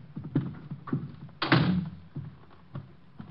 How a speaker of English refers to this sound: I'm locking the door. I don't want anyone coming in.